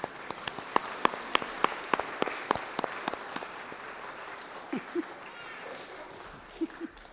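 An audience applauds. Sharp, evenly spaced claps ride over a dense wash of clapping for about three seconds, then taper off, leaving a few faint murmured voices.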